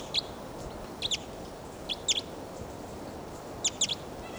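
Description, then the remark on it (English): Played-back decoy bird calls: high, thin chirps in quick pairs or triplets, repeated about four times at uneven intervals over a steady background hiss, with no talking. “And he's not calling, these are decoys.”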